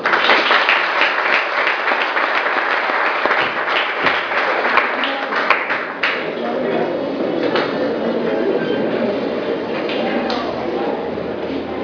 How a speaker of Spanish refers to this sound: Así que, bueno, también quisiera que recibiéramos con un fuerte aplauso